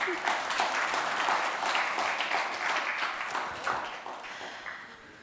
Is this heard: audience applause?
yes